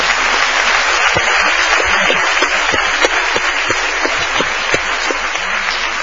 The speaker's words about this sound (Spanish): ¡Ahí está Lucía, señores! ¡Un aplauso, Lucía!